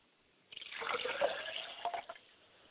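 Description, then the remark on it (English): Liquid is poured as a libation in a steady splashing stream for about a second and a half, with a faintly rising gurgle as it fills, then trickles off into silence. Fairly quiet, no voices. “I pour libations for my mother's spirit, and I say, Ashe.”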